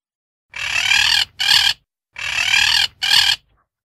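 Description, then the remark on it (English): A loud parrot gives two harsh squawks, a long raspy call then a shorter one, and repeats the pair. No one speaks, and the background is quiet between calls. “It's a parrot.”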